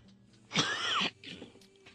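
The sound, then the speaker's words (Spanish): A short, rough throat clearing with a small cough, one harsh burst lasting about half a second followed by a softer raspy tail, with no talking. “Perdónenme por esto de la tosecita.”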